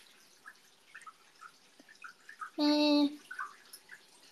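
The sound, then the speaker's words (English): Small watery drips and splashes from a washing machine doing laundry patter irregularly throughout, interrupted near the middle by a short, loud, tonal hum like a brief voice. “Water ASMR.”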